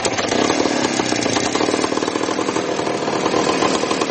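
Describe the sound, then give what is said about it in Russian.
A small motorcycle engine, taken from a Voskhod or Minsk motorcycle and fitted with a chain drive, powers a homemade trolley on a narrow-gauge railway at Frantsevo; it runs steadily and loudly, its buzzing rattle continuous throughout with no voices. “Снимали двигателя и ставили на эти дрезины.”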